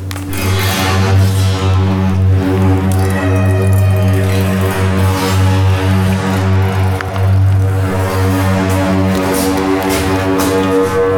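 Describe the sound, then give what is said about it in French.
A stringed instrument whose strings all sound much alike sounds a loud, continuous tone rich in overtones, its pitch gliding and wavering as the hand moves up and down, in an eerie, moaning way much like a whale's call, with no voices. “Le seul désavantage avec cet instrument, c'est que toutes les cordes font à peu près le même son.”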